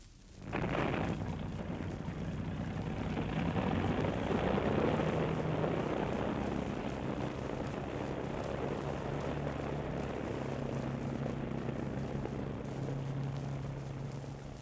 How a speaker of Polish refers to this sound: kapitan wydaje rozkaz wypróbowania silników.